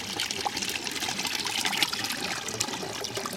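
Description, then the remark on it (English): Steady cascading water pours and trickles continuously through a pumped sieving system, the pump recycling the water around into sump buckets, a broad hissing splash with brief brighter spatters, moderately loud and without any voices. “The pump actually recycles the water around. So that's actually what's happening, and that's why we've got this cascading system.”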